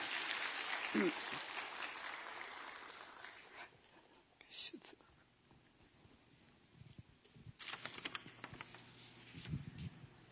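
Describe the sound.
An audience breaks into dense, full applause that swells at the start and fades after a few seconds, leaving room noise, shuffling and a few scattered taps, with faint voices in the background.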